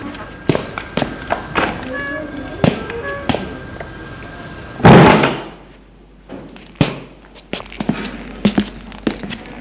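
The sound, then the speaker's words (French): The heavy entrance door of an old, dilapidated apartment building is pushed open with a loud, broad thud and creak midway, surrounded by scattered taps and footstep-like knocks, with a faint steady tone early on. “Il pousse la porte de l'allée.”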